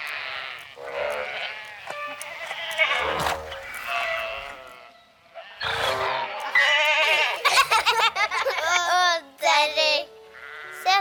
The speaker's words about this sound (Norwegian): Å, det er veldig mange sauer på marken i dag.